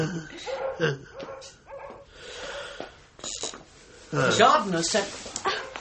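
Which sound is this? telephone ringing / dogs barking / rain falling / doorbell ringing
dogs barking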